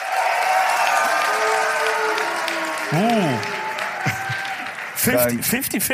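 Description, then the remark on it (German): A live audience claps steadily and loudly for several seconds to vote in an audience poll, a dense patter of many hands, with a few voices whooping and shouting over the applause near the end. “Einmal alle klatschen für Boobs.”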